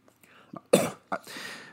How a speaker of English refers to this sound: Sorry, could you hand me another cup of water through the podcast feed? I'm getting the cough.